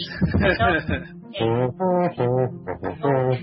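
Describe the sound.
A voice hums the Jeopardy theme melody, moving through a series of sustained, evenly spaced notes with brief breaths between phrases.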